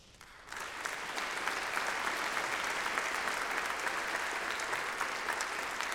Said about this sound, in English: Okay, we'll applaud after each band.